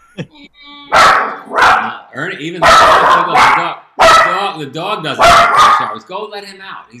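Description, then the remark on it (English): A dog barks loudly and repeatedly, around seven sharp, sometimes doubled barks in an uneven rhythm, with high whiny yelps and whimpers filling the gaps between them. “The dog doesn't eat salad. Dog wants to go eat a squirrel right now.”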